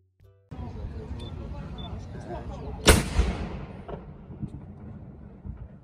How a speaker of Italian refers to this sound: Se salite fino in cima, cercate di farlo verso mezzogiorno, perché potrete assistere alla cerimonia del cannone, che viene caricato e fatto sparare proprio alle 12 in punto.